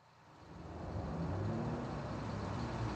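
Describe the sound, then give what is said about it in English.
A bus's engine rumbles closer, growing louder over the first second and then holding steady as a deep, continuous drone with a broad wash of road noise. No one speaks. “Look, here comes a bus.”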